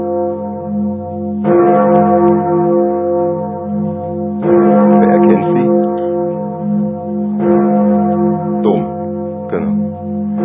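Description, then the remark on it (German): A large church bell tolls loudly, struck several times at uneven intervals, each strike blooming into a deep, humming resonance that lingers continuously between blows. No voices are heard. “Diese Glocke dürfte Ihnen vielleicht bekannt vorkommen.”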